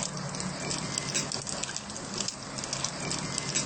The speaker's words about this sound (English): Now we leave it here. So the tofu is frying already.